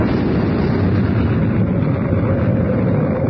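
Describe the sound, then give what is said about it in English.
An explosion inside the Sphinx, set off by the Pharaoh's last booby trap, roars as one continuous, dense rumbling blast that fills the whole stretch without letting up, heavy in the low end with no voices present. “An explosion inside the Sphinx.”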